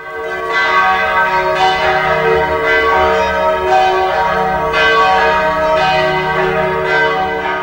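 Loud church bells ring continuously with rich, sustained overtones, strikes recurring roughly every second and a half and overlapping into a dense, echoing peal with no voices. The bells announce the arrival of the Nao de China ship.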